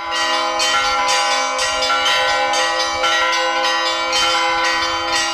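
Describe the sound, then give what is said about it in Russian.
Newly consecrated church bells ring out in a full, rapid peal across the village of Burlacha Balka in the Odesa eparchy, overlapping strikes every half second or so, each leaving a shimmering, sustained hum. Loud, with no voices. “В ходе освящения каждый колокол был благословен окроплением святой воды, после чего на всю округу прозвучал дивный и красочный перезвон.”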